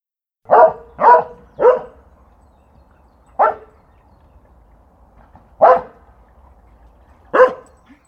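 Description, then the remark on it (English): A dog barks six times, a quick run of three close together, then three more spaced out with pauses between, loud with no one talking. “There's a dog.”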